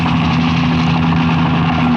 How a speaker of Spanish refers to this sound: Ay, jefe, son solamente gamos asustados por el ruido del helicóptero.